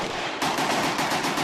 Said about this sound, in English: That's the sound of an AK, the Kalashnikov automatic assault rifle, commissioned by Joe Stalin.